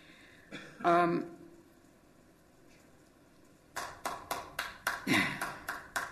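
A brief voiced sound is followed by a short pause, then a single person claps steadily, about nine sharp, evenly spaced claps in a slow rhythm.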